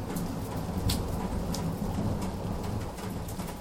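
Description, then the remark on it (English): Steady, heavy rain hisses throughout, with a deep, continuous low rumble of thunder from a storm underneath and a few brief louder spatters. No one speaks. “And all of a sudden, there was the most almighty clap of thunder, and it poured down.”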